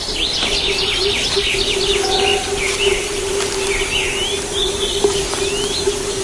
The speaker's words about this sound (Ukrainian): Десь з високості дерев чується флейта дрозда. Дрозди прилітають рано, наприкінці березня, і їхня красива пісня відразу сповіщає про приліт